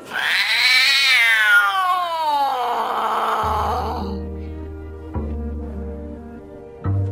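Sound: cats meowing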